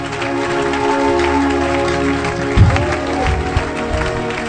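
A crowd applauds steadily for Jesus, a dense wash of many hands clapping with a few louder thumps near the end, and some voices mixed in.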